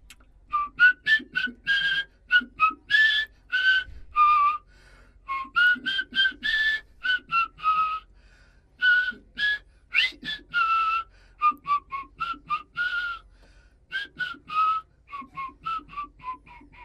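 A whistler in a studio whistles a slow, flowing melody alone, with clear sustained tones broken into phrases by short pauses, fairly loud throughout.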